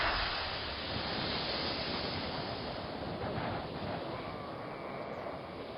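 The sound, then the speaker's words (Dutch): Autumn storm wind from the west, driving rain over a hilly landscape, roars steadily and loudly throughout, a dense, rushing wash of noise with no pauses and no voices, buffeting the microphone. “In het huilen van de wind was een ijl geroep te horen dat uit de top van de heuvel kwam.”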